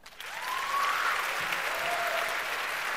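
An audience breaks into applause, building quickly to a dense, steady wash of clapping that holds loud for the rest of the moment, with a faint whistle-like tone rising briefly over it.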